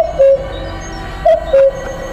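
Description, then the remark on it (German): A raven croaks three times at night in short, hoarse calls, one early and then a pair close together, fairly loud against a quiet, still background with no voices. “Ein Rabe krächzt in die Stille der Nacht.”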